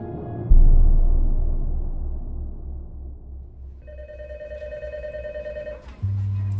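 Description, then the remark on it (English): A telephone rings once with a steady electronic tone lasting about two seconds, over a low rumbling background that begins with a heavy thud, then a deep low note; the phone is in George Mueller's tiny office by an elevator shaft, with a call from the LA County Sheriff's Office. “Back in George Mueller's tiny office by the elevator shaft, the phone rings.”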